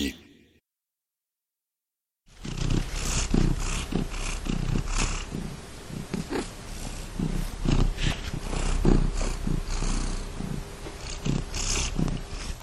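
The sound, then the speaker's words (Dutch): After a brief silence, a cat purrs loudly, a steady rumbling with rhythmic low pulses that continues for about ten seconds. “Ja, dat is de poes.”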